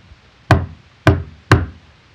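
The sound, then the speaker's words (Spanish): Three firm knocks on a wooden door as the royal doctor arrives at the queen's room, evenly spaced, each a sharp thud with a short resonant tail, with no talking. “enseguida, la reina abrió la puerta y lo dejó pasar”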